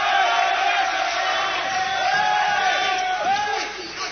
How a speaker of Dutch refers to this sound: En op de achtergrond hoor je het Marlène publiek al juichen.